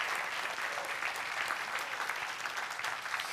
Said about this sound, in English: If you believe that, if you can accept that, why don't you give him a round of applause right now? Amen.